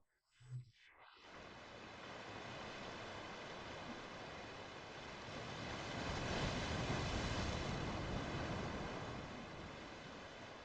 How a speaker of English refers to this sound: The sound of the ocean releases your muscles and makes every cell in your body float on a great ocean.